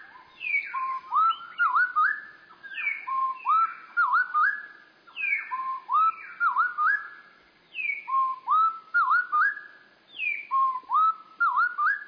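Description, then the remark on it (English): Bird song of two birds singing together, slowed to quarter speed, heard as low, drawn-out whistled phrases with swooping slides, repeating roughly every two seconds in a steady, fairly loud pattern with no talking. “Let's slow down the song to 1/4 speed. It'll be easier to hear two separate voices.”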